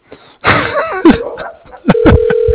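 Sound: phone call ringing tone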